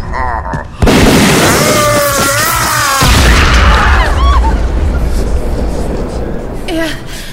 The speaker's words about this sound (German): Er ist explodiert!